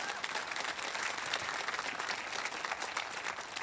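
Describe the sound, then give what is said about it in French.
An audience bursts into sustained applause for God, a dense, steady wash of many hands clapping together for several seconds with no voices rising above it. “Est-ce que ceux qui l'ont déjà vécu peuvent applaudir notre Dieu?”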